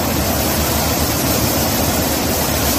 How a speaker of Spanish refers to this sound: Así corría el agua por las calles de Águilas, en Murcia, durante la tarde-noche de ayer.